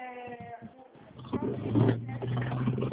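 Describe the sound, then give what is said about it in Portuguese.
Steady low engine hum and rumbling road noise as if from inside a moving car in traffic, growing louder midway, with a brief voice-like tone at the start. “É que, na verdade, eu tô no trânsito, agora eu não consigo falar.”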